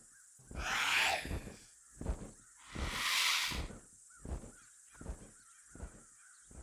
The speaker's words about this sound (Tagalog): Pero may narinig akong huni sa may ulunan ko.